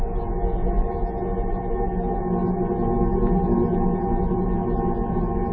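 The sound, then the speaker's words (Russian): A dense, steady roar of low droning tones and layered hum from a sonified space recording of the planet Jupiter, loud and unbroken throughout, with a rumbling, slightly wavering texture and no voices. “Музыка Юпитера – одна из самых мощных в Солнечной системе.”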